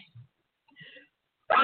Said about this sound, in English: Excuse me, guys. All right. I've been doing this all day. Sneezing. This is part of that detox. Like, I'm getting all of this crazy out of my system.